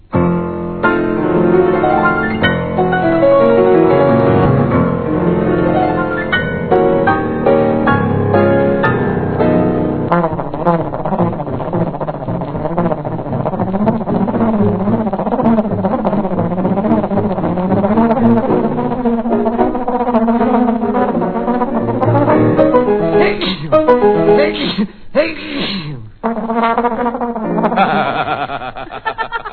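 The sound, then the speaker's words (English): A comic old-time band record of Rimsky-Korsakov's Flight of the Bumblebee plays a fast, frantic buzzing melody with laughing mixed in, then sharp sneeze-like bursts and abrupt breaks near the end, loud throughout. “Rimsky-Korsakov's Flight of the Bumblebee, played and laughed and sneezed”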